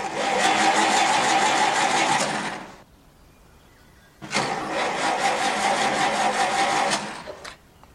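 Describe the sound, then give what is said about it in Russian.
A car engine roars to life and revs loudly, cuts out briefly, then surges again as the car sharply pulls away, with no one talking. “Машина резко уезжает.”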